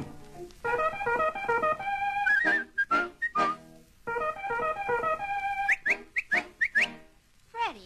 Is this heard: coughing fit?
no